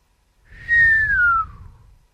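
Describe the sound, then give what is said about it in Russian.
A person gives a single short whistle that slides gently downward in pitch, lasting about a second, clear, with only a faint low rumble behind it. “Присвистнул он.”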